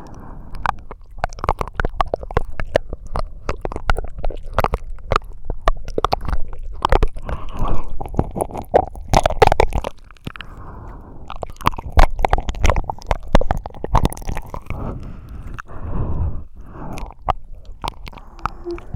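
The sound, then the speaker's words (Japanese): Wet licking and smacking mouth sounds of someone licking thoroughly inside an ear continue steadily with dense squishy clicks, without any talking. “下でもう一度耳かきしちゃうみたいに、耳の中を隅々までじっくり舐めてあげるね”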